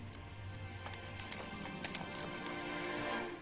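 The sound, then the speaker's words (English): Coins scatter and clatter across the ground as the money changers' tables are overturned, in a handful of sharp, irregular metallic clinks, over a steady low background rumble with no voices. “He overturned the tables of the money changers. Scattered their coins.”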